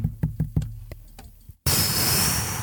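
knocking

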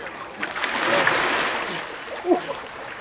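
person jumping into water

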